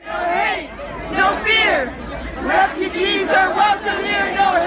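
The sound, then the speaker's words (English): A raucous crowd of protesters shouting outdoors outside a town hall hosted by California Republican Congressman Tom McClintock in a Sacramento suburb, many overlapping voices yelling and chanting at once in a dense, continuous roar that stays loud throughout. “And earlier this month, a raucous crowd outside a town hall hosted by California Republican Congressman Tom McClintock in a Sacramento suburb.”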